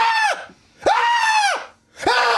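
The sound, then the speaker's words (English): A person imitates high-pitched screaming, three loud, sustained shrieks in a row with short breaths between them, strained, each pitch bending downward at the end. “He says, please simulate screaming.”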